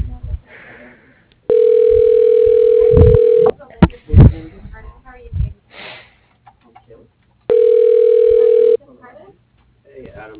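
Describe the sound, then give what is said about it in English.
Two loud, steady telephone ringback tones sound on the line, each a flat buzzy hum lasting a couple of seconds, separated by a pause filled with faint breathing and handling noise, as a call is transferred to another person's phone at GMI Manufacturing. “I can try to transfer you to her phone.”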